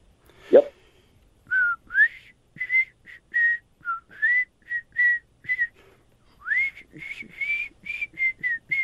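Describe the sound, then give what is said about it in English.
A person whistles a song melody for listeners to guess the artist and title on the radio segment the host Hums the Hits, in a series of short, clear notes with brief gaps, rising and falling in pitch, fairly loud, with no talking over it. “I'm gonna try to whistle a song, and you have to tell me the artist and the title.”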